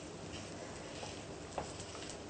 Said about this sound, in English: Less risk of them falling to bits when you cook them. Because don't forget, we haven't got any flour or egg in here at all. Okay, so now here they go, sizzling away.